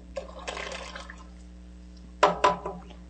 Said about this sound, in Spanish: Vamos a continuar con la sopa. Falta únicamente agregarle la mazorca licuada. Ya está hirviendo la sopa.